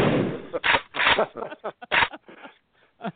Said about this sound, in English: I think that somebody else has found a shotgun sound effect.